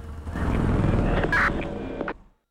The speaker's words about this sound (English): Brody looks out at Capitol Hill. A helicopter flies overhead.